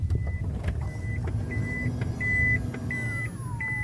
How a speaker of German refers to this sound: Genau, die elektrischen Seitentüren öffnen sich und geben den Raum wohl zum wichtigsten dieses Autos frei, die zweite Sitzreihe.